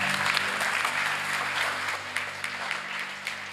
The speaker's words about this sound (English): And if you really believe it, could you just clap your hands real quick wherever you are and just give God praise for it.